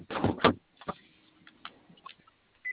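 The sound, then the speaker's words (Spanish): A vehicle door clunks open with a couple of sharp mechanical thumps while a remote door-lock system is tested, followed by quieter clicks and a brief latch sound as it locks. “Ok, ¿me podrías regalar la apertura de una puerta por una?”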